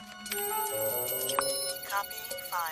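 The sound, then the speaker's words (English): A mobile flip phone in a man's trouser pocket rings with an incoming call, its bright electronic ringtone melody playing continuously and fairly loudly, with rising tonal sweeps near the end. “With a frown, he reaches into his trouser pocket and pulls out his mobile phone.”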